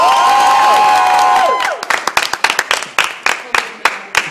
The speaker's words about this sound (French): Et sous vos applaudissements, Delphine Rivet de Reviewer vient de nous rejoindre.